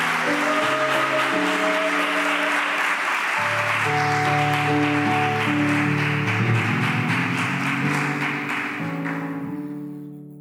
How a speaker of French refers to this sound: Merci beaucoup. Ces acclamations, je les reçois. C'est à moi.